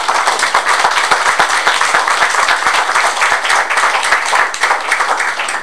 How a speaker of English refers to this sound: So you did a great job, as far as I was concerned. Thank you. One more hand of applause for these young people.